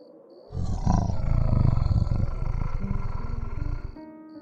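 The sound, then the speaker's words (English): A single strangled, half-groaning growl rumbles low and rough for about three and a half seconds, loud and sustained, then cuts off, with no voices around it. “A strangled half-groan, half-growl sounded.”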